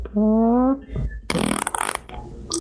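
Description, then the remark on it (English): A loud fart sound: a drawn-out buzzy tone that rises slightly in pitch, then a short pause and a harsh, hissing sputter that trails off. “Dude, those shark tacos I made for dinner are coming back.”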